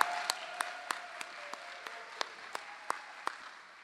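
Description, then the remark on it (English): Soft, steady applause from an audience cheering for a creator who stands to take a bow before her video is shown, with a few sharper claps standing out at a regular, almost rhythmic pace over a hiss of crowd noise. Nobody speaks. “Let's give her a cheer just for cheer.”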